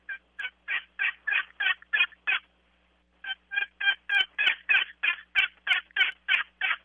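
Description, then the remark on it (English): A hen turkey in a roost tree at early-morning daybreak gives a steady run of raspy yelps, about seven evenly spaced notes, pauses briefly, then continues with a longer series of a dozen more, clear, with no other sounds. “Hen turkey's in a tree. She's early morning's breaking daylight.”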